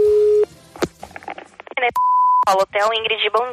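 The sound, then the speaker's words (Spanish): A phone call to a hotel in Brazil, trying to reach the referee Nishimura: a steady, low telephone tone sounds for about half a second, then talking, then a second, higher-pitched tone briefly before more talking resumes. “El viernes por la mañana ya localizamos en un hotel de Brasil al árbitro Nishimura y le llamó un presunto Iván Rakiti, jugador croata, con un ligero acento andaluz.”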